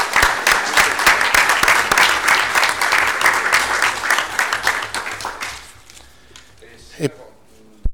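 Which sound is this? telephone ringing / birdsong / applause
applause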